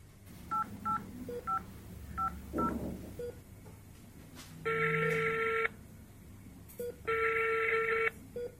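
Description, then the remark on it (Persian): A quick run of keypad dialing beeps, then a mobile phone call ringing out as a doctor calls a police commander: two long, steady electronic rings with a pause between them, clear, with no one talking. “خو حال ای را بان توی موبایل ما بته.”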